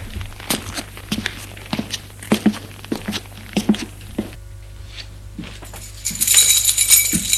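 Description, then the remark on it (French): Footsteps climb worn stone stairs up to the third floor in a steady, unhurried rhythm, each step a crisp scuff, with a faint clink and a brighter rustle near the end. “Il entretient son allée, qui est lugubre, peu éclairée, que d'une ampoule qui pend un fil au plafond, boîte aux lettres dépareillée, monte les escaliers de pierre usée jusqu'au troisième étage.”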